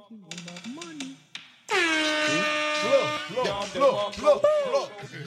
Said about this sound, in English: You have an air horn here?